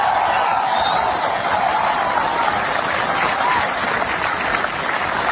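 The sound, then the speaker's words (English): Steady applause from a large audience of officers and sailors of the USS Abraham Lincoln after the speech line 'The United States and our allies have prevailed', a dense wash of clapping that stays loud and even without a break. “And that got a good chunk of applause, almost 2 seconds.”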